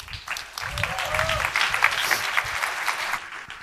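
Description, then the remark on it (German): Steady applause from a crowd as a team takes the stage to present their game project Simple Ways to Umweltschutz, dense clapping that holds at a fairly even level for several seconds, with a faint voice or cheer briefly rising above it early on. “Bühne frei, großen Applaus nochmal.”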